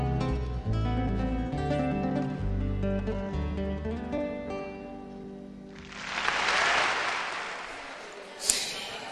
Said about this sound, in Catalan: Escoltem este fort aplaudiment a esta cançó